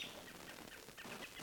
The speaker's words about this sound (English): Robins all over the area are calling.